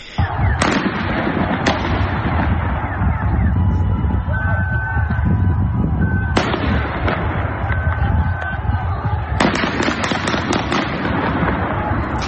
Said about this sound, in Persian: در شهرهای مختلف ایران در روز دوشنبه هم فضا به شدت امنیتی بوده. گزارش‌ها از حضور زیاد نیروهای امنیتی در واحدهای مختلف حکایت داشته و صدای تیراندازی هم گاهن شنیده شده.